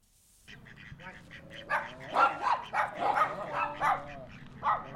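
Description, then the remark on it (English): A dog barks in a quick series of sharp barks in an afternoon at Hidden Valley Park in Hanford, against an open outdoor ambience, with faint background activity between the yelps. “At Hidden Valley Park in Hanford, families, children, dogs, and ducks enjoy a picture-perfect afternoon.”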